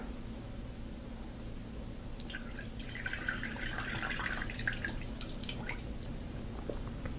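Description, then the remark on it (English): Rinse water is poured off homemade butter after being shaken with it, a trickling, dripping stream over a steady low background hum. It starts softly, swells in the middle, then tapers off, with no one speaking. “So pour some water in there, give it a good shake, and then pour off that water.”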